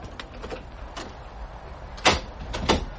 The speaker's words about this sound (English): Same old door, anyway. Used to be a swine to open. Probably still is.